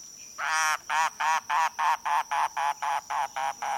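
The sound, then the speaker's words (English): A Caribbean bird on Key West, likely a mangrove cuckoo, gives a steady series of about eleven harsh, nasal, throaty notes, evenly spaced, with no talking. “Listening on Key West to mangrove cuckoos and gray kingbirds, you might imagine yourself in Cuba or the Bahamas”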